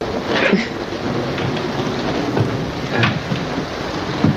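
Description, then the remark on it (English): A steady roar of heavy rain from a big storm that is nearly over, with a broad low rumble that sounds like thunder and a few sharper bursts rising above the constant wash of the storm. “The storm's about over.”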